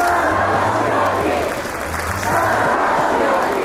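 Tens of thousands of citizens in Belgrade roar and cheer continuously while welcoming the Serbian Olympic team home with 8 medals, a dense wall of many voices with rhythmic chanting and shouts rising and falling, loud throughout without a break.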